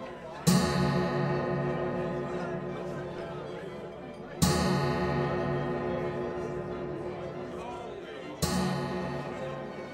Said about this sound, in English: The clock strikes midnight. All stop in silence, listening to it.